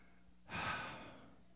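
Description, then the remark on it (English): A single breathy yawn that rises suddenly after a brief quiet moment, then trails off slowly as a long airy exhale, with no talking. “And yawn.”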